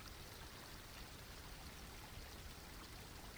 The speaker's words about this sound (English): Now look down at your feet, at the edge of the water, and step forward into the stream so that the water is running across the tops of your feet and around your ankles. Feel the coolness and the movement of the water.